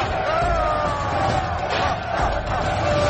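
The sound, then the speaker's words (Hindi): A large crowd roars continuously as Gama overpowers a fierce wolf in a fight, a dense wall of cheering and shouting that stays loud throughout, with no pauses and no single voice standing out. “उसका भाई खुश होकर भीड़ को जोश दिला रहा है।”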